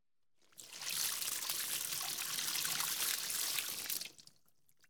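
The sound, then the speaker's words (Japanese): Warm water is poured in a steady gush for about three seconds to rinse soap off a person being bathed, a broad splashing rush that starts abruptly and cuts off cleanly, with no voices. “じゃあ流しちゃいますからね。”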